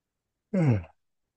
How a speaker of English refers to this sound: My yawning is not fatigue. I'm starting to move energy through me. Yawning is one way it processes.